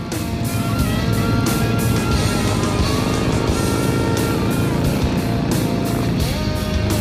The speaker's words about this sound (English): The four chums stand at the roadside as the menacing stream of Harleys, ranging from choppers to trikes, fat boys to sportsters, cruises by.